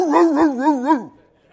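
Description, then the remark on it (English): A person imitates a little poodle barking: four quick, high-pitched yaps run together, fairly loud, trailing off in a short downward whine. “You want a preacher that knows how to bark, but you don't want one that bites.”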